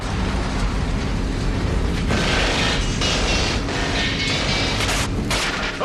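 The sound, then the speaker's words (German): Bullets strike a truck right beside James Bond during a chase scene in the 1989 film Licence to Kill: sharp metallic impacts burst out of a dense, constant roar of engine and action noise, loud throughout with no speech. “Bei einer Verfolgungsjagd schlagen Kugeln in einen Laster ein, direkt neben 007.”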